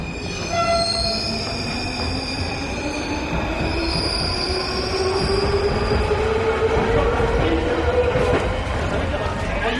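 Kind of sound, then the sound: vehicle, metro train arriving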